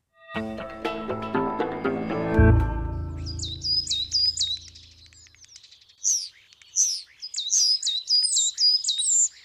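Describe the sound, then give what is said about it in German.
A fading musical chord gives way to songbirds singing at the start of the breeding season: coal tits, starlings and chaffinches trading bright, rapid chirping phrases in repeated bursts, clear, with no talking. “Tannenmeisen, Stare, Buchfinken, viele Vögel haben wieder begonnen zu singen.”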